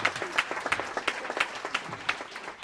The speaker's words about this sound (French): Merci pour ces applaudissements. Je crois qu'ils les ont amplement mérités.